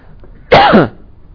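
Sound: throat clearing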